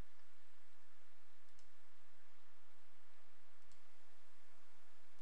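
Two quick mouse clicks, each a brief, faint double tap, separated by about two seconds against a steady background hiss, with no one speaking, as a mainpage.saml file is double-clicked in the Solution Explorer of Visual Studio.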